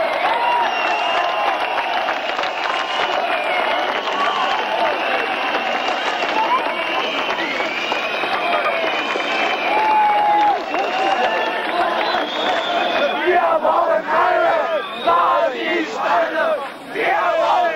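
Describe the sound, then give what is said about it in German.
A large crowd of demonstrators in East Berlin, GDR, opposite the Palast der Republik during the official state birthday celebrations, chants and cheers loudly and continuously, voices blending into a dense roar with rhythmic shouted slogans rising above it, staying strong across the whole stretch. “Gegenüber vom Palast der Republik, dem Zentrum der offiziellen Geburtstagsfeierlichkeiten, formuliert die Menge, was sie will und auf wen sie setzt.”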